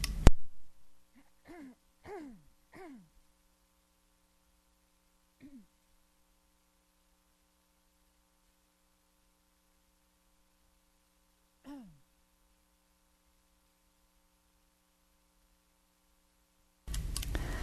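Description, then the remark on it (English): A speaker about to lead a guided meditation clears their throat in a quick cluster of three short, gruff rasps, then once more softly a few seconds later and again after a long quiet pause. “I'm just going to clear my throat here.”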